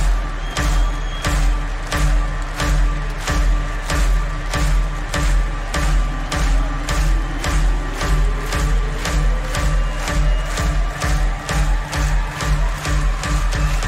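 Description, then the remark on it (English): A large concert crowd in Amsterdam claps in unison with hands up at the MC's call, sharp steady beats about twice per second, over loud sustained music with a slowly rising synth tone. “Hands up, Amsterdam, clap!”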